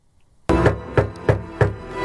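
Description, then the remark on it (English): Four firm knocks on Patrick Willis's door, the special knock announcing his election to the Pro Football Hall of Fame class of 2024, in a steady, evenly spaced rhythm, fairly loud, with a background hum underneath and no voices. “A special knock on your door.”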